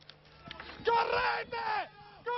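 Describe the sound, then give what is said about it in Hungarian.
Residents of Maierato, a small town in Calabria, southern Italy, shout "everyone run" while fleeing a landslide: several loud, strained shouts rising and falling in urgent bursts, with a brief pause before another cry breaks out at the end. “Fusson mindenki, ezt kiabálták a májerátóiak, miközben ők is rohantak a földlavina elől.”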